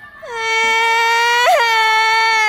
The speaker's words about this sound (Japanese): おっと、どうしたのでしょう。一人の少年が泣いております。